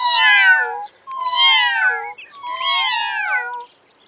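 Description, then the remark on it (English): A cat meows three times in a row, each call loud, drawn-out and wavering in pitch, with only brief pauses between them and no voices. “Goodbye, says Cat.”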